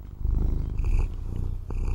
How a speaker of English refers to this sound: And then bring your attention to the purring of this cat. This cat? This really cat. Being curious about the sounds of purring.